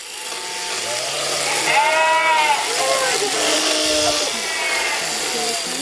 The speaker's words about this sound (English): Little sheep shearing there, that in Nova Scotia, far from Cumbria, where my guest farms and raises sheep.